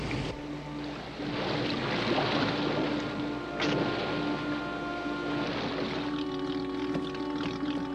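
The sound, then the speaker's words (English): A boat's engine drones steadily over rushing water and wind, with a tonal hum that shifts slightly as the boat turns around on the water. No voices are heard. “I'll turn the boat around.”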